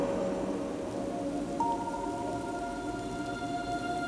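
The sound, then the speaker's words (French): Rain falls steadily in a continuous, even hiss at moderate volume, with a faint sustained tonal hum running underneath and no voices. “La pluie, c'est le passé qui revient. Elle tombe, mais en réalité, elle est déjà tombée.”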